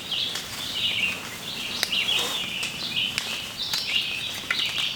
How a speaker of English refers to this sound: carefully listened for distinct bird calls